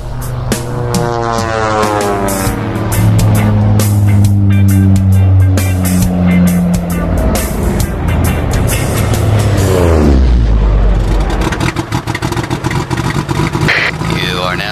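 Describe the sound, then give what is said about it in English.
An engine runs loudly and steadily, its pitch climbing and falling through several revs before dropping sharply near the end, followed by a rough, throaty idle. “Whoa, kill the motor, dude.”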